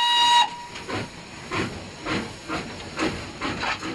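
steam train whistle

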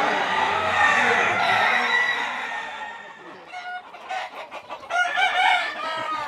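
rooster crowing and clucking

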